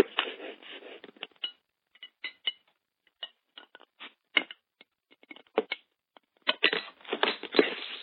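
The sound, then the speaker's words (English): Someone opening the first beer of a 4-pack: a string of irregular crinkly clicks and crackles, bunched at the start and end with sparse taps in between, moderately loud, with no talking. “But I'm going to open the first one, so here we go.”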